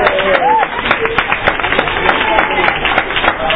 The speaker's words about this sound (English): Deserves special applause.